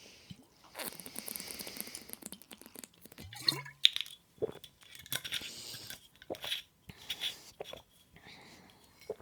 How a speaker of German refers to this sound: Ich trinke vorher einen Schluck, ihr auch